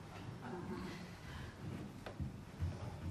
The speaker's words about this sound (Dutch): De deur gaat weer open. Mag hoor.